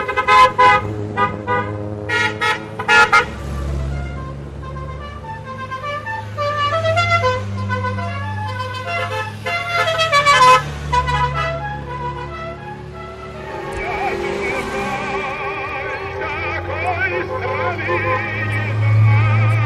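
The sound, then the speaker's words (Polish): A rally convoy of 31 vintage Syrena and Warszawa cars, about 3 km long, honks almost continuously, many horns overlapping in a loud, shifting chorus of toots and longer blasts, with engines rumbling steadily underneath, arriving at the Museum of Communism park near Druskininkai, Lithuania. “Tak na oko jakieś 3 km samochodów, jeden za drugim, same syreny i Warszawy.”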